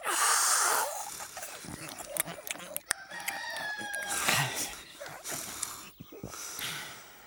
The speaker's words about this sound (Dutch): Kom, dat was de haan. De boer heeft hem ook vast gehoord.